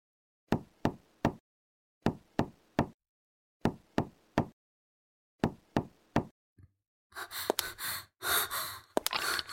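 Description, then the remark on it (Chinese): Firm knocking on the door of a home in four groups of three evenly spaced raps with brief pauses between, then a faint tap followed by loud, ragged breathing and gasps. “我不会给你开门的，你知道你这样已经犯法了吗？”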